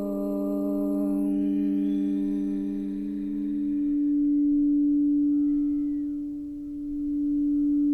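A long, steady chanted Om hums without a break, a deep resonant drone that shifts slightly in tone about halfway through, opening a meditation session on the throat chakra, Vishuddha. It carries on alone, with no talking over it.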